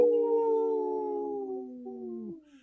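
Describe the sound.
On the Native Roots Radio show, a person's voice imitates a single long, wavering wolf-like howl that holds a steady pitch and then slides gently downward for about two seconds before cutting off. No one speaks.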